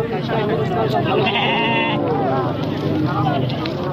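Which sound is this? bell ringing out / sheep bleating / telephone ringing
sheep bleating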